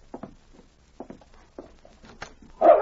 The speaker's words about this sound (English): A dog barked outside the door